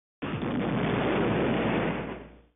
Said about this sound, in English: A dull, distant explosion is heard.